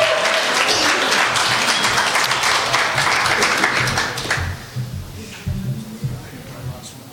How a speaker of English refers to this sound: Stand with me and give the Lord a hand clap of praise.